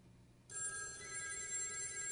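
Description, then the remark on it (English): A telephone rings with an incoming call to the Chicago Indie Media radio show, its bright electronic tone starting abruptly after a brief low hum and sustaining steadily, fairly loud, with no one talking. “Let's listen to the phone call.”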